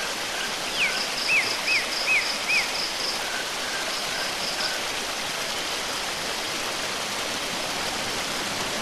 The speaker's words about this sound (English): You find yourself looking at a beautiful waterfall pouring into a clear pool, surrounded by rocks, plants, and trees.